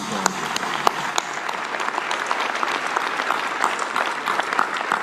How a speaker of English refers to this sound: We are grateful to you, we are indebted to you, and we give you a warm, warm and grateful round of applause.